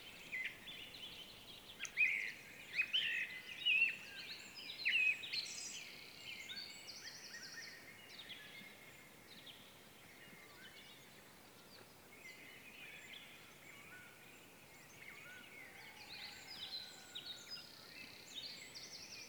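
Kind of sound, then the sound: bird, birds singing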